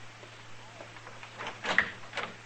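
A door is opened for Marshal Matt Dillon: a short cluster of latch clicks and rattling thumps over a steady low electrical hum.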